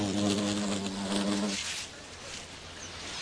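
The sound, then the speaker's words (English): A bee buzzes steadily for about a second and a half as it dips its legs into a Diascia flower to collect the oil secreted at the tips of its floral tubes, its droning hum then fading out, leaving a soft outdoor hiss. “Flower and bee, in this case a perfect fit as the insect dips its toes for oil.”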